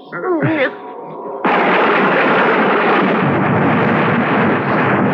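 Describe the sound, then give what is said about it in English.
A wavering, cry-like sound gives way to a sudden, very loud lightning crack during a storm in the dark, followed by thunder rumbling and roaring, steady and heavy until the end. “I was literally galvanized awake by a bolt of lightning which must have hit the tree.”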